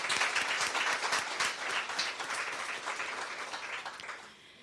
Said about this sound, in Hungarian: Még egy tapsot szerintem.